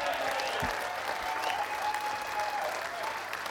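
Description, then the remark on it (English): Steady, dense applause from an audience for the band, including a saxophonist, fills the whole stretch, a continuous crackling wash of many hands clapping at an even loudness with no voices standing out. “Everybody in the band, because they certainly deserve your applause, because I insist.”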